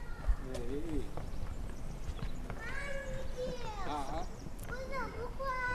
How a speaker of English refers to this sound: Even here, our voices in this park, the airplanes we heard, these are noises that actually pollute the environment in a way we don't usually think about.